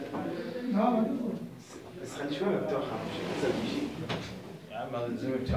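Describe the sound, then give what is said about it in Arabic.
A door knocks or bangs with a brief, sharp clatter while a man keeps speaking over it during a lesson, the thud sitting under his voice at moderate loudness. “سيدنا بس الباب رازم عليك.”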